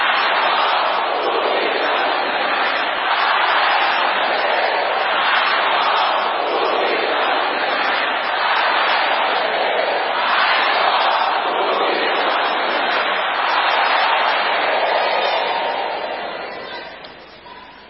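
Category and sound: crowd, audience shouting loudly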